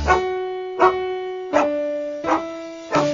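Dogs bark and howl in a steady rhythm, five loud, close yelps stretched into tuned, sustained notes that step through a simple melody like a song.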